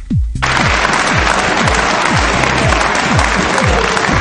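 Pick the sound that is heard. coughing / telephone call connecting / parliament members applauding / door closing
parliament members applauding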